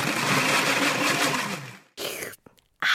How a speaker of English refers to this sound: When it just won't blend, try adding half a glass of water to the top of the blender cup and whiz again.